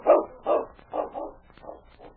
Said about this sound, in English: The great dog whined helplessly. He knew only humans could help his master.